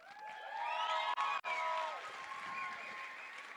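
A crowd applauds steadily, a dense wash of clapping with voices cheering and whooping over it through the first half, then settling into sustained clapping, welcoming the next speaker, from the Chicago chapter of the U.S. Palestinian Community Network, at a gathering celebrating the refounding of the National Alliance Against Racist and Political Repression.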